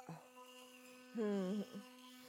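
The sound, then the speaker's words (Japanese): An electric toothbrush, just switched on, buzzes in a steady, unbroken drone from start to finish, fairly quiet, while a brief voice rises over it about halfway through. “スイッチオン。この電動歯ブラシを考えた人、天才だよね。”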